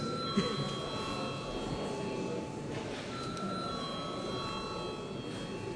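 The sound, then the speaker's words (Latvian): A chairman's bell rings continuously for several seconds in the Saeima, the Latvian parliament, before a vote, a steady high-pitched tone with a slight shift partway through, over a low background murmur. “Paldies, lūdzu zvanu.”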